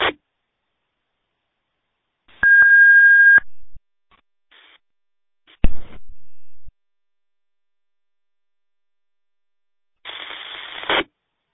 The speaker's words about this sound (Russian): Ну, тон я слышу твой, гудит такой, гудочек стоит на сигнале.